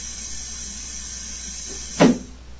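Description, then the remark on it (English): An automatic door, opened by pressing a button, runs with a steady, faint hiss, then closes after a few seconds with one short, dull thud just before the end. No one speaks. “So the door opens, and then after a few seconds, gives you time to walk through, and then it closes.”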